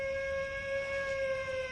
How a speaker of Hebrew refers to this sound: או, שוב צפירה.